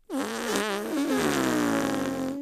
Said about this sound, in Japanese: おお、くっさ。どうだ、上官の濃厚なおならは。強烈だな、これは。